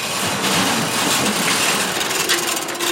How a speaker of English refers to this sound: This metal garage door opens into 2,000 square feet of empty space.